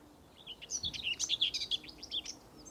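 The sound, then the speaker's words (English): Loud birds chirping outdoors in a dense, rapid flurry of high, sharp tweets that overlap one another, with faint low background rumble and no voices. “Some loud birds out here today. Can you keep it down?”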